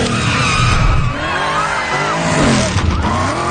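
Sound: car tires skidding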